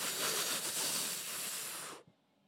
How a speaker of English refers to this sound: I'm breathing it in all week.